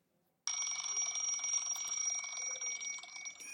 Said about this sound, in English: Clock goes off for the third time.